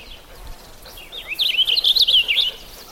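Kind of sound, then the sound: bird, purple finch song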